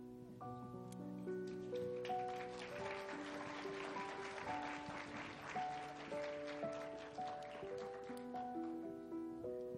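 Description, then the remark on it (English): A crowd at a Christmas service claps steadily and warmly for several seconds for a group of children, a dense patter of many hands, while sustained keyboard chords play underneath. No one speaks. “I think you could give a bigger hand clap for all these kids.”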